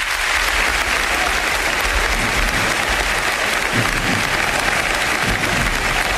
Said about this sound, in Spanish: El aplauso en Gijón, directo a Carrusel Deportivo.